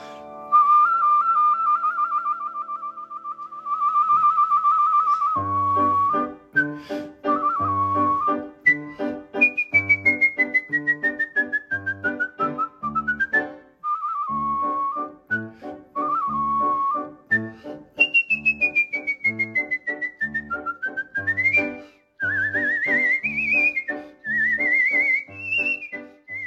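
A bright, agile whistled rendition of Gioacchino Rossini's La Gazza Ladra sings out clearly over a rhythmic instrumental accompaniment, with long sustained notes, quick runs and sliding phrases in a lively operatic style.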